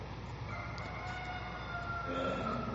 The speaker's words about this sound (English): And he went out into the gateway, and the rooster crowed.